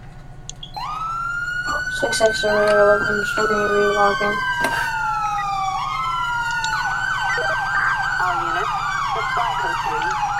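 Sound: police car sirens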